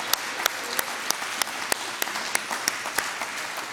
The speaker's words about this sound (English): While you're thinking about that, I think the food committee deserves a round of applause for the food this morning.